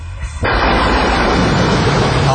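After a brief quiet moment, a storm arrives: a loud crack of thunder bursts in and keeps rolling as a dense, roaring, heavy rumble, lasting to the end with no voices.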